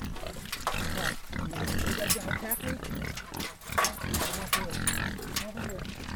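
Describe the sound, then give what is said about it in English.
Pigs grunt and snort steadily on a livestock farm, a dense overlapping chorus of low, rough oinks with occasional sharper squeals, filling the whole stretch with barnyard noise. “Larry raises everything from pigs to sheep to geese.”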